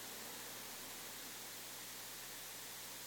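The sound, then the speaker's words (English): Heavy rain pours down in a steady, unbroken hiss, dense and even throughout, with no voices, no distinct drops standing out, and no pauses in the downpour. “I don't think this is what they mean by April showers.”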